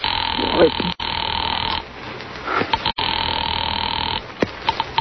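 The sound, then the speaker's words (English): A telephone rings through on the line to an operator during a call to the police: a steady, buzzy ring tone with thin, band-limited phone-line quality, broken by brief gaps, plus faint clicks and handling noises. “Well, all right, I'll call the police.”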